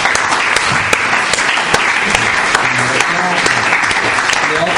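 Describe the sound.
An audience applauds a speaker's point on the reform of Italian politics. The clapping is dense and steady at a strong, even level for several seconds, with faint murmuring voices underneath.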